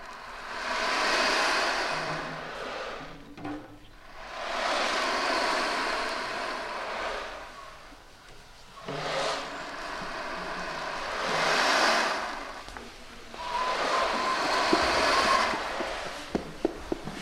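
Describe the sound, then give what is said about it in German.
An ocean drum filled with small balls is tilted back and forth, the balls rolling from one side to the other across the head in long hissing swells that rise and fade like sea waves, four broad waves in succession with no talking. “Und wenn man so eine Trommel hin und her kippt, dann rollen die ganzen Kugeln von einer Seite auf die andere.”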